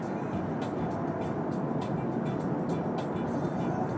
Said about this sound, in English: Just in time for me to finish that, the traffic picks back up.